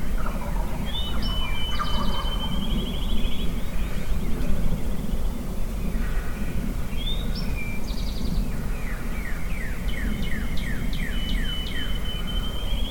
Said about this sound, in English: Back at the honey hole. Heard my first gobble just as I stepped off the porch this morning. Beat it out to the old honey hole. Sounds like the gobblers made it through the winter.